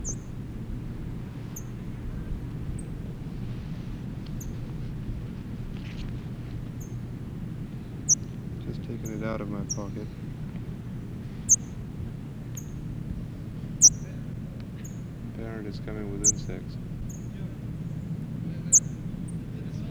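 A parrot chick, held in a person's hand, gives short, thin, high-pitched chirps every second or two over a steady low background rumble, with a couple of brief rasping, buzzy calls mixed in.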